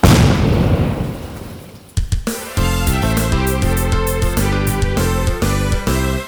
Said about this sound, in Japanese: 爆発物は天の湯にある古井戸内で爆発し、幸い死傷者は出ておりませんが、